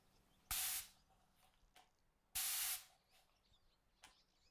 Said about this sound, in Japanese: お兄ちゃんが雑巾がけしたところ、スイはアルコールスプレーをかけて拭き上げていくね。